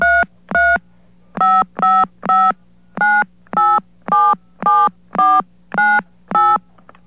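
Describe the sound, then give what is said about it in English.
A telephone keypad dials a passcode and a phone number: about eleven short, loud DTMF tone beeps in quick, slightly uneven succession over a low steady hum, with no one talking. “I put in my passcode, and I put in the number I was dialing.”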